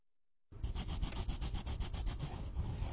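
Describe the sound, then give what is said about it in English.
Crayons scribbling on paper: a steady, scratchy rubbing with quick back-and-forth strokes in a brisk rhythm, starting after a brief silence and continuing with no voices. “Crayons.”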